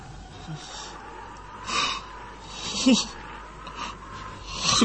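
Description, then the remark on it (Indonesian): Heavy, ragged panting of the character Ken Arok, with a few sharp gasps and snorting exhales, spaced irregularly over several seconds, moderately loud against a quiet background. “Bagaikan berpacu berebut lebih dahulu, napas Ken Arok tersengal.”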